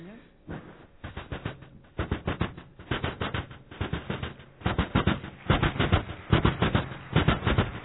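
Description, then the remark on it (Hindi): A steady run of rapid clacking bursts, like train wheels rolling over rail joints, repeating in quick rhythmic clusters at moderate loudness with a rumbling undertone throughout. “रेलगाड़ी पटरी पर चलती है, पटरी से आवाज आती है।”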